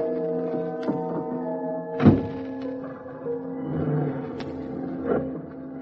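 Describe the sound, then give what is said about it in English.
A car engine hums steadily, broken by one solid thunk like a door shutting, then the motor keeps running and rises slightly as the car pulls away from the curb. No one speaks. “I just pulled away from the curb when I got noticed that sleep was going to be a missing ingredient in my future.”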